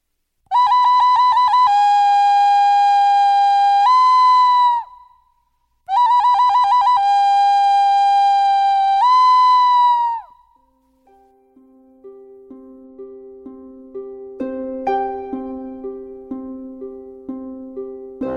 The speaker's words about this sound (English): But every once in a while, she'd hear the call of that bird.